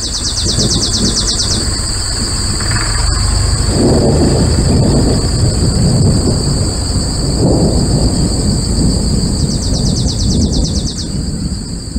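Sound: thunder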